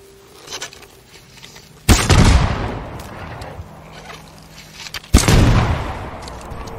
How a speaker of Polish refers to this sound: Wybuchowa strzała.